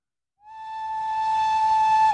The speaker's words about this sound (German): Ich hörte das Pfeifen der Züge, das von näher oder ferner herkommend mich, wie der Ruf eines Vogels im Wald, die Distanzen überbrückend, die Weite der menschenleeren Landschaft ermessen ließ, durch die der Reisende dem nahen Bahnhof zueilt.